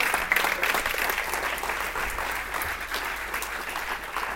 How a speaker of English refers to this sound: Come on, let's give Jesus a big old clap today.